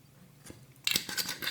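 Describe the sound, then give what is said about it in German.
Someone sucks out the last drops of a drink: a faint brief sip, then a run of loud, raspy, sputtering slurps with a hissy bubbling texture, and no talking. “Letzten Tropfen rausgesaugt.”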